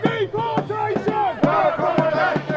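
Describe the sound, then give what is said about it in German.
A protest crowd, demonstrating against a government plan to house 540 migrants in a disused barracks, chants "Deportation, no accommodation" in unison, many voices shouting the rhythmic slogan with repeated stressed beats, loud and steady throughout, under Union Jack, English and Sussex flags. “Deportation, no accommodation, skandieren die Demonstranten.”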